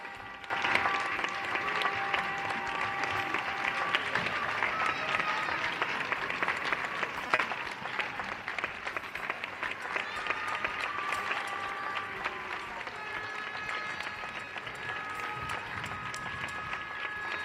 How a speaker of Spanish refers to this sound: Y aplausos desde Usera